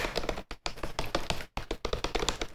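Rapid typing on a newly unboxed, battery-powered computer keyboard running on an AA battery: a dense stream of crisp, fairly loud key clicks with two brief pauses, and no voices.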